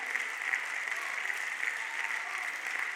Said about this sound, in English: Clap your hands if you know Jesus.